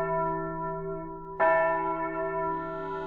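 Church bells tolling: a deep, resonant ring hangs in the air before a second strike lands about halfway through, its rich overtones sustaining loudly with no voices.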